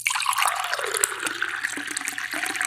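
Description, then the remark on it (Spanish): Rushing water pours steadily with a dense, hissy wash, loud and unbroken for the whole stretch, with small splashy flickers on top and no voices. “Ruido de agua.”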